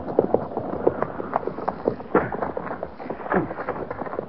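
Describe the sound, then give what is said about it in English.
Horse hooves of a patrol clip-clop in a steady rhythm, the beats uneven as the animals slow to a halt on command, with a low rumble of movement underneath. “get that horse and put him with the pack mules”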